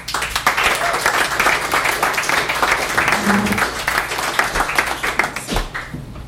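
A crowd applauds steadily, a dense, continuous patter of many hands clapping at full volume that holds for several seconds before easing off slightly at the end.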